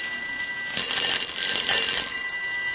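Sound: telephone ringing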